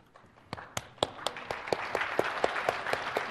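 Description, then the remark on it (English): Audience applause at a SharePoint search technical presentation starts with a few scattered, sharp claps and quickly builds into a fuller, steady wash of clapping, with distinct louder claps still punctuating it at a regular pace. “Seems that we get all the applause here.”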